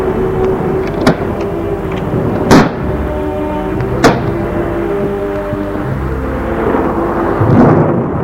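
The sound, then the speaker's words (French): A steady storm rumble with sharp thunder cracks at uneven intervals and a rising gust of wind near the end, loud with no voices. “Il souffle les rideaux et entre en rafale dans la pièce. Les éclairs dans un ciel sombre et menaçant.”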